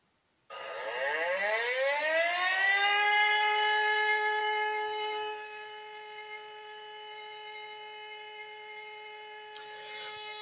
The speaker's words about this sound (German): So, hier nochmal ganz kurz die beiden Töne. Das erste ist jetzt der Signalton für die Feuerwehr.